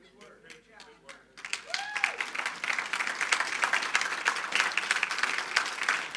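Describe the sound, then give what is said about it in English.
An audience breaks into applause: a few scattered claps at first, then dense, sustained clapping from a sizable crowd that stays steady and fairly loud, with a voice briefly audible early on. “If the loudness of your clap was indicative of how much you appreciated it.”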